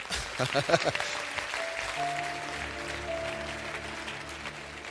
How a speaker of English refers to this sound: I think there's a song. You need to clap well there.